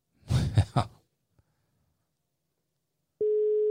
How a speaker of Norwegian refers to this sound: Det er god podcasting å høre på ringlyd.